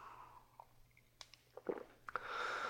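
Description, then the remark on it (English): Someone sips coffee: a few soft slurping and swallowing sounds with small mouth clicks, ending in a brief airy, breathy noise, all fairly quiet and without talking. “Just gonna take a sip of coffee here, guys.”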